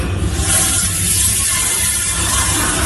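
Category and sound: household object, toilet flushing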